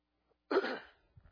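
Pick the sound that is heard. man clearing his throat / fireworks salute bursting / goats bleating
man clearing his throat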